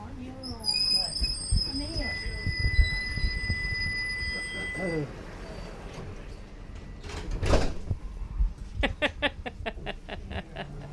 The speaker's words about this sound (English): It's a good tram, isn't it? Sorry? It's a good tram.